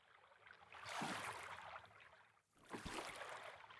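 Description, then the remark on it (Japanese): Two swishing, splashing strokes of oars through water, one around the first second and another near the third, each a broad watery rush that swells and fades, with a soft gurgle between. “星の運河は漕いで漕ぐと水の音が聞こえてくるんです。”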